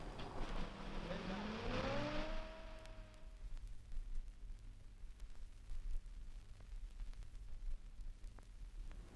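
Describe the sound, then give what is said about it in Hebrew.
A heavy military vehicle engine roars and revs up, its pitch climbing as it pulls away during a withdrawal from the Gaza Strip, then fades within a few seconds, leaving a low rumble and background hiss. “מכונית אחרונה שעוזבת רצועת עזה! כל הנהגים מתחילים לנוע!”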